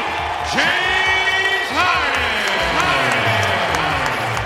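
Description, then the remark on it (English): A large arena crowd in Houston roars steadily as it greets a returning former player, a loud mix of cheering and booing that swells and holds for several seconds, with scattered voices and whoops rising above the din. “Sounds like more cheers than boos, yes.”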